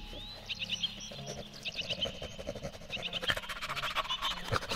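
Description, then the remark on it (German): Breathy sniffing in quick irregular bursts, growing busier toward the end, as Hermann Göring sniffs at droppings to pick up a trail, while birds chirp and trill in the background of an outdoor setting. “Wer schnüffelt denn da?”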